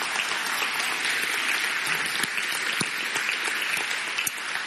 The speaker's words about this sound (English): Give him another round of applause.